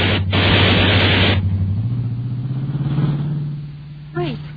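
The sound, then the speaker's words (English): A car roars past very close with a loud rushing burst, its engine whining and rising in pitch as it veers by, followed by a brief tire squeal at the end. “that car is acting oddly.”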